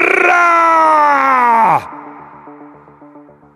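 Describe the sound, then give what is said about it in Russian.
A loud, drawn-out group shout by a century of soldiers running while trying to keep formation, imitating an enraged elephant's trumpeting with the cry "Bara!", bellows for nearly two seconds, its pitch sagging at the end, then gives way to a quieter, rhythmic pulsing sound. “Крик разъяренного слона «Бара!» в нашем исполнении больше похож на вопль перепуганного слоненка.”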